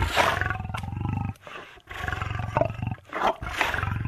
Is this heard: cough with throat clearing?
no